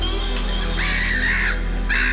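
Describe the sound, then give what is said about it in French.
A seagull cries out in a drawn-out, harsh squawk, followed shortly by the start of a second call, fairly loud over a low steady hum, with no one talking. “Bougez pas, petite mouette de secours.”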